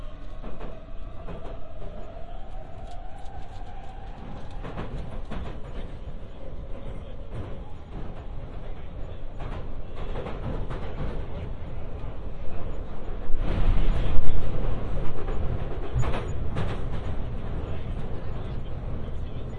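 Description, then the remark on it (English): A continuous low rumble and roar of a moving London Underground Victoria Line train to Brixton, with a faint whining tone early on and a louder surge of rattling noise midway. “This is a Victoria Line train to Brixton.”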